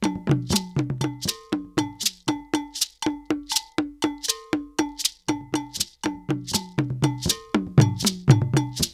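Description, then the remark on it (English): A kagan drum plays steady, repeating mid-pitched strokes alongside a bright, ringing bell pattern, the two locked together in a continuous interlocking rhythm with no voices. “Let's listen to each of the drums in relation to the bell. First, Kagan.”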